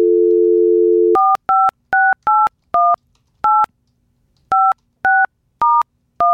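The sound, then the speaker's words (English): A steady dial tone cuts off, followed by a quick series of ten touch-tone keypad beeps, each a short paired-pitch blip in an uneven rhythm, clear with no talking, dialing a Kansas City phone number shown on an Eagles billboard. “And it just says, for a pep rally in your pocket, call this number, Kansas City.”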